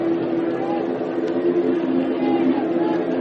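An airplane drones overhead in a steady, unbroken low hum with a strong sustained tone, holding an even loudness over a wash of broad background noise, during game five of a baseball World Series involving St. Louis.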